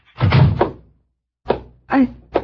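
A door shuts with a heavy thunk, followed by a few shorter, lighter thuds and knocks in quick succession, as children are sent outside to play in the back.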